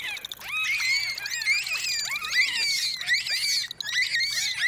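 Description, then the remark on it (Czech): Bottlenose dolphins chatter in a dense stream of high, overlapping whistles that sweep up and down in pitch, mixed with squeaky chirps, continuous and fairly loud with no talking. “Celú uštipačnú diskusiu delfínov skákavých o farbe vašich plaviek si môžete vypočuť na svojej exotickej dovolenke.”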